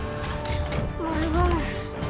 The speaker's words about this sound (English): A purple light shines as the door slides up.